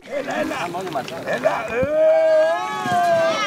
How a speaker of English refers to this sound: This is what it sounds like when divers are trying to heave a big bag of trash out of the sea. They've got a huge tire, a shopping cart, and lots of plastic. These 12 divers have volunteered to clean the seabed off the Greek island of Poros.